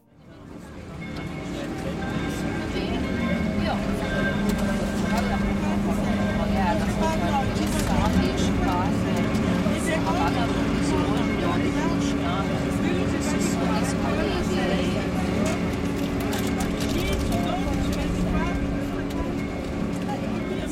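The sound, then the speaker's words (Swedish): A water taxi motorboat's engine drones steadily and loudly as it travels along the Grand Canal, a continuous hum with water churning beneath and voices murmuring in the background. “Jag ger mig ut på gatorna, hoppar ner i en båttaxi som går via Canal Grande.”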